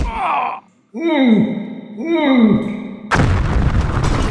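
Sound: explosion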